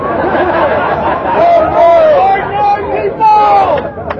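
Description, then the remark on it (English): A crowd of many voices shouts and chatters together, a steady loud hubbub with some raised calls rising above the babble and a few bursts of laughter. “I hear an obscure crowd.”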